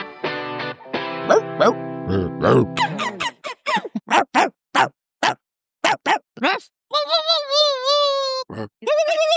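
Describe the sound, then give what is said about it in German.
German celebrities Sebastian Puffpaff, Janine Kunze, Anna Thalbach, Jennifer Siegler, Cornelia Puletto, Guido Maria Kretschmer and Thomas Anders imitate a dog with their voices, one after another: a string of short, sharp woofs and yaps, fairly loud, with a drawn-out wavering howl near the end. “Ach, wie schön unsere Promis bellen können.”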